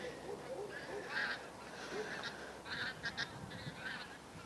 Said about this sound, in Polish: Znowu gęsi latają. Jakaś taka grupka zagubiona leci. I ten... Źle poleciały. No właśnie. Fajnie wieczorami, jak właśnie wracają ptaki, te klucze latają. Jak się siedzi.